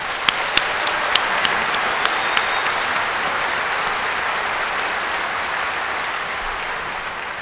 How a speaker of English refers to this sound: I want to thank this committee that we just had a beautiful dinner together and to hear how hard this committee has been working. I'd love you all to give a round of applause to them.